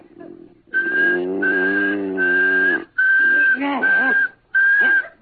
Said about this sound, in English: They say if you whistle in a monotone, maybe that'll work.